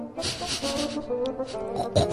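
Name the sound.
snoring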